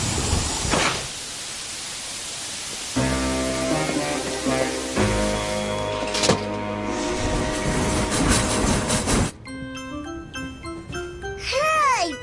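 A moving train rumbles steadily on its rails, with sustained metallic squealing tones layered over the noise and wavering, whistle-like tones near the end. No one speaks.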